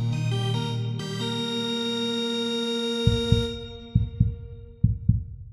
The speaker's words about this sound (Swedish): Ja, men alla lyssnare, hör ni pulsen som slår där?